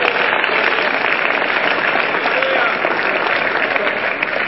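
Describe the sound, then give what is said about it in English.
An audience claps their hands for Jesus in a dense, steady wash of applause that stays loud and even for several seconds, with crowd noise mixed in. “Are you clapping your hands for Jesus, somebody?”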